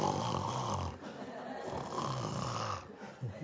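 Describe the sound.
A voice imitates the snoring of a person during meditation, with two or three drawn-out, rasping breaths in a steady rhythm and brief pauses between them.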